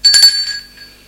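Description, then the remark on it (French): A doorbell at a second-floor door rings with a quick pair of bright metallic strikes, then a clear high chime that rings on and fades out over about a second. No voices are heard. “Et il sonne à la porte.”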